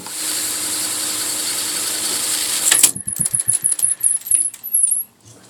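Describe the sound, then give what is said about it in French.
A Revox reel-to-reel tape recorder mechanism whirs with a steady, hissing rush for a few seconds, then gives way to a quick, irregular series of mechanical clicks and clunks before falling silent. “l'issue de cette rencontre, nous avons réussi à dépoussiérer tous les secrets de la Revox.”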